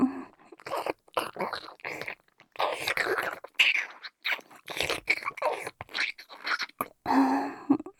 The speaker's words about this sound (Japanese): まずは、人参さんを噛み噛みして、もぐもぐ。噛み噛み。